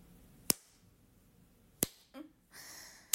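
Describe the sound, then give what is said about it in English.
Three sharp, crisp slaps of a hand on bare skin, slaps to the clitoris during masturbation, spaced slowly about a second apart, close to the microphone, with faint rustling in between and no talking. “I'll do some clit slaps.”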